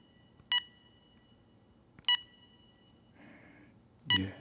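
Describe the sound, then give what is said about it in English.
Three short electronic keypad beeps spaced over a few seconds, with a faint rustle or click between them, as the code is entered on an alarm panel to turn off the alarm. “Hope I remember this alarm code. Turn off this alarm.”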